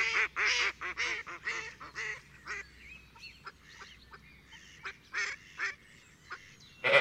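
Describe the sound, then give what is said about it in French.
Ducks quack in a loud, rapid burst of nasal calls, then a scattering of softer quacks follow, ending with one sharp quack. No one speaks. “Ce sont les canards qui cancanent.”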